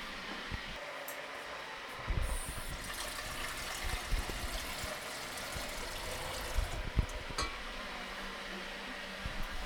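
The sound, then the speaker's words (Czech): Liquid is poured steadily for several seconds, a continuous splashing rush with uneven gurgles, over a constant background hiss; no one speaks. “Jak to tam leješ?”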